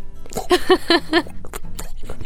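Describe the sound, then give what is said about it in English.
Someone vocally imitates an oil-filled heater, a metal heater with pipes that heats oil: four quick, evenly spaced voiced pulses, like a bubbling glug, followed by a few soft clicks and mouth noises. “It's got like pipes and it's made of metal. So it's pretty hot when it's turned on. And it's either heating up water or oil.”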